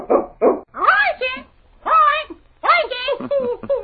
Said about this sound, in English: Well, listen to that bird. He hasn't forgotten King's name. He remembered it as soon as he heard it.